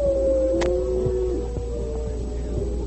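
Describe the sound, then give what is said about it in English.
A long, wailing coyote howl, given by a man as a signal, holds a steady, slightly wavering tone for about two seconds before trailing off, heard alone against a low background hum with no talking. “As they went down the path, the Indian suddenly gave as a signal the wailing howl of a coyote.”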